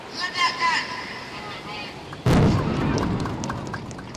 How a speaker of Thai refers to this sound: ครับนั่นก็เป็นเสียงการระเบิดเรือประมงนะครับโดยทางการอินโดนีเซียนั่นเอง